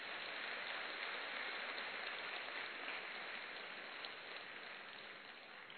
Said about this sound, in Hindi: और सभा में हम सम्मान करते हैं दोनों हाथ की ताली से।